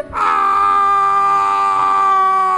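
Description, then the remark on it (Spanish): A man, as a hunter, lets out one loud, sustained scream, held at a steady high pitch for over two seconds, alone with no talking around it. “Luego un cazador gritando...”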